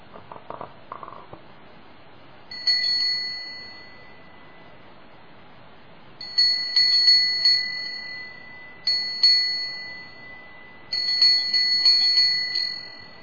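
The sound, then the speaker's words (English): A meditation bell is struck four times at uneven intervals to end a meditation, each clear, high ring hanging in the air and slowly fading, with a soft rustle just before the first strike and no talking. “Now in a few moments I'm going to ring the bell. After the bell is rung, slowly open your eyes to end the meditation.”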